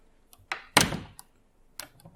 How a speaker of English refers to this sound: What are you locked the door for?